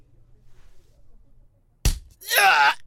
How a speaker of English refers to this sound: And punches me hard in the stomach.